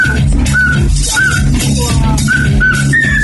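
A cockatiel whistles a series of short, bright, high notes in a bouncy pop-song rhythm, layered over a loud, steady bass-heavy music track.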